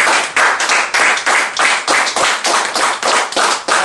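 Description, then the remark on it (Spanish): Applause from a group during a Spanish-language church sermon, offered to the Lord: dense, loud clapping that comes in rhythmic surges of roughly two or three per second, bright and crackly, with no voices. “Dale un aplauso, este aplauso al Señor.”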